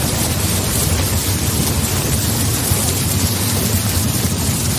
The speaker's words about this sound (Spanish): Y sí, estamos en Herrera en COPE, estamos a 10 de abril de 2023, y la lluvia, aunque estemos en abril, aguas mil que decía aquel, y esperan como agua de mayo nuestros agricultores y también los ganaderos, no hace honor al refrán y de momento no llega